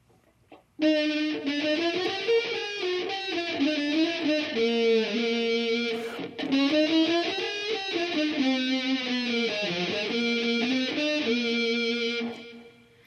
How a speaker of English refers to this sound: So the computer is distorting the sound and making it sound kind of like a fuzzy electric guitar. And that's a plug-in that I have.